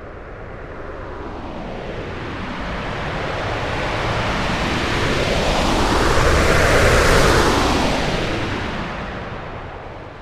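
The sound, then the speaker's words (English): A rocket launch sound effect: a broad, rushing roar with deep rumble that steadily builds to a loud peak, then begins to ease off. No voices. “Speaking of rocket fuel, I think it is time we use some to head to our next destination.”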